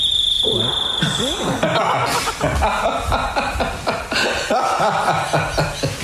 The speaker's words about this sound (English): So it's in the house. But wait for the interruption. It's a cricket?